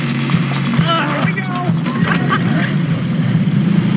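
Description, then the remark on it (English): A bus engine sputters and turns over with a steady, loud low rumble and uneven knocking as people push the bus, while faint voice-like sounds rise and fall above it. “And, you know, it came to me, what we need, this would be perfect for when they first start pushing the bus.”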